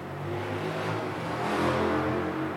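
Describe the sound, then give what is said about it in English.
A motorbike engine revs steadily, a low droning hum with a brief rise in pitch partway through, heard on its own without any talking. “Yeah, he walked, he didn't go by motorbike.”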